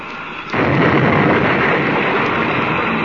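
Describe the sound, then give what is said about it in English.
A spaceship crash after one ship rams a gang ship, the two locked together and out of control: after a brief quiet moment, a sudden loud impact bursts into a dense, roaring rumble that holds steady and unbroken to the end, with no voices. “The ships are locked together. But both of them out of control. They've crashed.”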